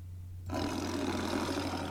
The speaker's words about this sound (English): Tiger.